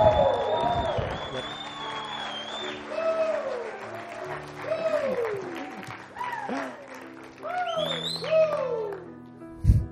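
A crowd applauds steadily throughout, with repeated rising-and-falling whoops and cheers cutting through the clapping in bursts, fading out at the end.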